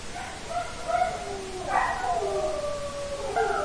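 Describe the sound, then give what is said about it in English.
Dogs howl in long, wavering, overlapping tones, several voices rising and sliding against each other, with no talking over them. “You know, when dogs are sad, they are not afraid to express their sadness.”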